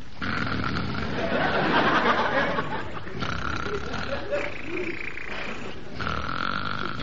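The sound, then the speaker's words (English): A man imitates loud snoring with rough, rasping, grunting breaths in about three long drawn-out bursts separated by brief pauses. “does all his own snoring and never uses a stand-in.”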